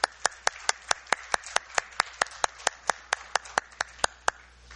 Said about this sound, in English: You've done an excellent, really excellent job, and really I wanted everyone to give you a round of applause for the excellent work you've been doing.